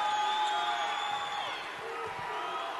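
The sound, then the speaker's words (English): A large basketball arena crowd roars and cheers steadily after a three-pointer, a dense wash of voices and whoops that swells and holds for a few seconds with no single voice standing out. “crowd coming to life too.”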